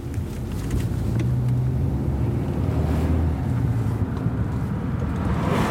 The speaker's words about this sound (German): Langsam fährt das Auto an das schwere, gelbe, metallene Tor heran.